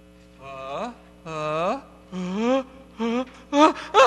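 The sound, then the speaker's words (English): A voice performs an asthmatic sound poem, imitating asthmatic gasping with about six strained, wheezy vocal breaths that rise in pitch, each separated by a short pause, the last ones sharper and louder. “Asthmatic poem.”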